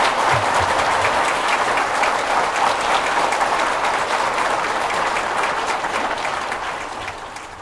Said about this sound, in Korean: 우리 뜨거운 박수로 한번 환영해 주십시오.